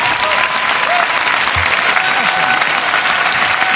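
A crowd breaks into sustained applause, a dense, steady wash of clapping hands that holds at an even, loud level for several seconds with no talking over it.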